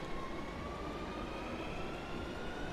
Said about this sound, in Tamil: Train போயிடுச்சு.